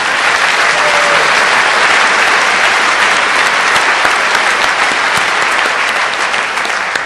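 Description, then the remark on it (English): Sustained audience applause for the event's NOC (network operations) team, loud and steady throughout, a dense wash of many hands clapping with no distinct rhythm and no one speaking over it. “And one final round of applause for the rest of your NOC team, because there were quite a few people involved and they worked very hard.”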